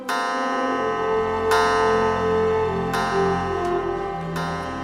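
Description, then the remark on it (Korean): A clock bell tolls midnight in slow, evenly spaced strikes, each deep, resonant chime ringing into the long sustained hum of the one before, with no voices. “자정을 알리는 종소리가 울리는 지금 우리가 입을 맞추면 우린 이렇게 사람의 모습으로 영원히 있을 수 있어.”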